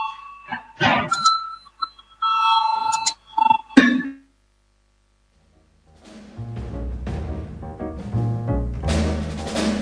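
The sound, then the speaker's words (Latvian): A parliamentary voting bell: a string of bright electronic chime tones rings for about four seconds in uneven bursts, then stops; after a short silence, a dense, steady wash of sound rises and continues, as members vote on deputy Šrādins' proposal number 18. “Lūdzu zvanu, balsosim par 18. deputāta Šrādina priekšlikumu.”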